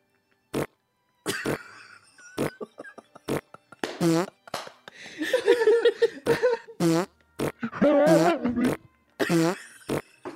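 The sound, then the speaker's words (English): A rapid series of loud farts: short sputtering bursts at first, then longer buzzy, wavering blasts, with no talking. “I started to bolt out the door, but not before leaving a trail of loud farts with every step.”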